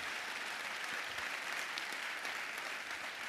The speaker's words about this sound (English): So praise the Lord for the women, and let's clap our hands for the women.